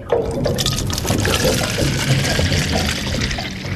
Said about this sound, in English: of course they take actual samples from a device called a... the Van Doren water sampler. It's lowered into the water, then hoisted back on board, where its contents are poured into holding jars.